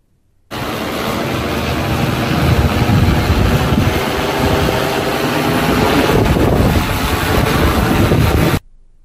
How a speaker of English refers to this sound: When the drone descends for the drop-off, the sound increases to about 62 dBA for about 30 seconds. Here it is again.